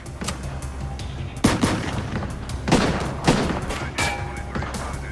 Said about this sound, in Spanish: Bammel le bloqueó la salida a McLean con disparos. Ahora McLean le estaba disparando a los dos lados.